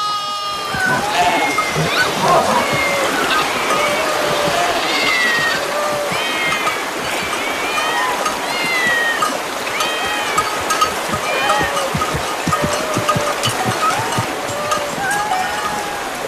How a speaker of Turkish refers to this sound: Bunca kedi burada ne arıyor? Bu kentin insanları kediye tapar. Burası da kentin tapınağı. Beste kenti. Buranın insanları kediyi çok sever.